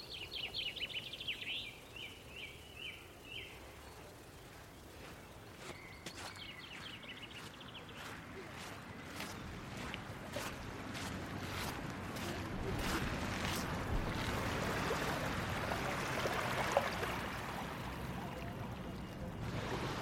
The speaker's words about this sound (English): We're standing on the beachfront at Douglas on the Isle of Man